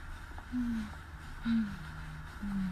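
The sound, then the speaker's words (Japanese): Three heavy, labored breaths come at a steady pace, each a short voiced exhale or gasp, from a person out of breath while walking on a stroll and filming, over a low background hum. “なんか息切れ気味。”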